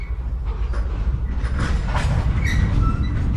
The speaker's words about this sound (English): You can tell it's a depot because it sounds like this. You can hear the trains around you, and as you enter or leave a depot, you are told.